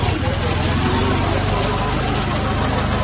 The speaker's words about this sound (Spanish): Esto es un Fiat 500 clásico de los antiguos.